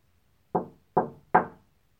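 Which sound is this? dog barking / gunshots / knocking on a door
knocking on a door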